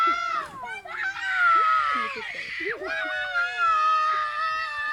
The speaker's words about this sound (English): And the other boys are shouting at him. They're telling him to shut up. They're telling him not to cry because he's a boy.